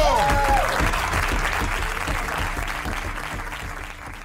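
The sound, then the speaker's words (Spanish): A crowd applauds David Broncano loudly and steadily, dense clapping filling the whole stretch, with a brief whistle or cheer near the start before the applause slowly eases off. “Y un fuerte aplauso para David Broncano.”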